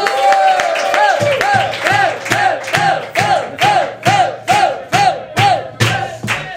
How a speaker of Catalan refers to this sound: Així que rebem amb un fort aplaudiment